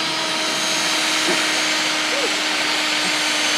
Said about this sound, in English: Let's drill the hole first. Yeah, we have to do that.